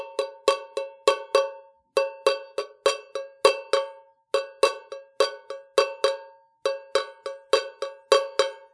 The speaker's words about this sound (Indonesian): Baik, kelompok A memukul kaleng dan kelompok B mengamati kaleng yang dipukul oleh kelompok A. Ya, yang diamati adalah kalengnya, bukan suaranya.